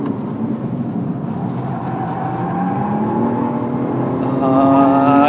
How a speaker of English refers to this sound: He's just glided it round the end hairpin there superbly. Through a chicane. Listen to the engine.